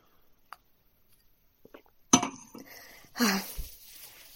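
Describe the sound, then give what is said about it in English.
A wine glass clinks sharply twice as someone takes another sip of wine, each contact leaving a brief bright ring, with a few faint ticks and small handling sounds before them in an otherwise quiet moment. “Gonna have another sip of wine.”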